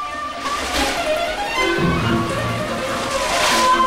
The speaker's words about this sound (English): The Goonies each hurtle down a long underground water slide.